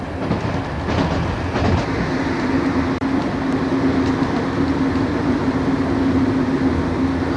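Steady rumble inside a moving train carriage, a constant low roar with a faint humming tone and occasional soft rattles and clunks from the wheels, loud and continuous throughout with no voices.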